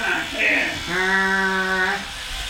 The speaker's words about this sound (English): looking into the mirror as he uses an electronic toothbrush. He has trouble scrubbing one particular tooth, so his mom has to help him.